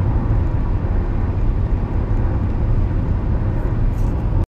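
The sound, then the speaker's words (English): A deep, continuous roar of large C-17 cargo planes flying overhead above Nellis, loud and steady throughout with a heavy low rumble and no talking. “Some of our large C-17 cargo planes are above Nellis right now.”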